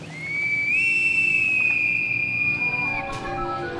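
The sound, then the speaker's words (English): A shrill, sustained whistle rises slightly in pitch and holds steady for about two seconds, like a bosun's pipe, then cuts off as a faint murmur of other sounds continues beneath. “Then we hear a whistle like a bosun's pipe.”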